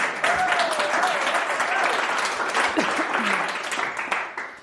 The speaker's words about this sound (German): Yes! Applaus für …!